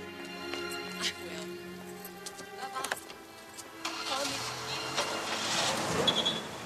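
A car engine idles with a steady low hum and a few clicks, then revs up into a rising rush of noise as the car pulls away, fairly close and loud.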